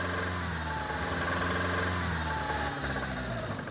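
A car engine, started by turning a key in the ignition, catches and runs with a rough, throaty rumble, holding a steady, fairly loud idle for a few seconds with no voices over it.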